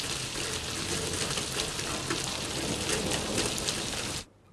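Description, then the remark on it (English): Heavy rain pours steadily, a dense hiss broken by sharper drips from a sloping roof plinking onto a metal tray of gardening pots, puddling in a back alley by dustbins and a scooter, then cuts off abruptly just before the end. No voices. “Relentless rain drips from a sloping roof, puddles in the back alley by the dustbins and a scooter, and plinks onto a metal tray of gardening pots.”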